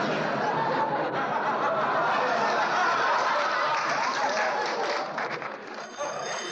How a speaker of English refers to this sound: Dear me, the phone again.